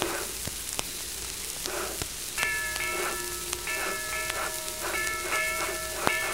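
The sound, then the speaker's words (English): A steam train pulling away from track number 6, with a steady hiss of steam, sharp clanks, and repeated whistling tones sounding in short bursts over the rumble. No one speaks. “I guess that'd be our train.”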